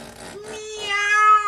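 A single drawn-out cat meow, close and fairly loud, rising in pitch and swelling toward the end before cutting off, with no other sounds around it.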